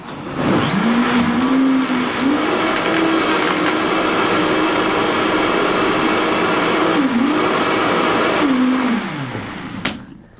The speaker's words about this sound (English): Now here comes the sweet one. We put the pulp into the blender now, and the ingredients we talked about previously.